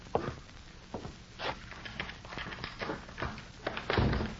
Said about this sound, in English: Weary from a long day's ride, Morley unlocked the door and stepped inside.